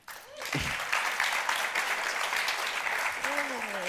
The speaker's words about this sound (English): Also, just before we start, another round of applause for our wonderful performers at the top of the show tonight.